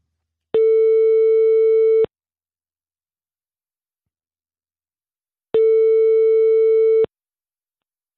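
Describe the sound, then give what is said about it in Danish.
A phone line's ringback tone purrs as an outgoing call to Iris Blomster in Fredericia, Denmark, rings: two long, steady electronic tones separated by several seconds of silence, with a third just beginning at the end. Clear, no voices. “Men jeg vil bede om en opringning til Fredericia.”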